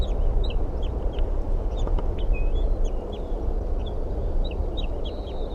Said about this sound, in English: This is a bird in a tree next to the nest tree. Okay. And the bird that just flew up there was a male.